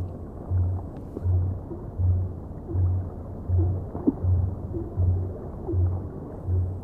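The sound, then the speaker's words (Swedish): A blue whale's low-frequency song, sung at frequencies from about 40 hertz down toward 10 hertz: a steady train of deep, rumbling pulses repeating about once a second against a dull underwater hiss, with no voices present. “Blåvalen sjunger på lägre frekvenser från 40 hertz och ner mot 10.”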